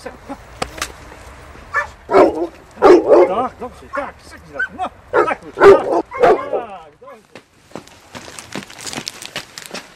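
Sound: dog barking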